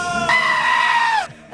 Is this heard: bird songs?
no